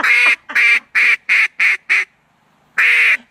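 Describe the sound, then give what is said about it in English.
A world champion duck caller blows a duck call imitating an angry duck: a rapid run of six harsh, raspy quacks, then a pause before one last loud, drawn-out quack, aggressive-sounding, with no talking. “He's a duck caller. World champion duck caller. Okay. Damn, and it sounds like... That's an angry duck.”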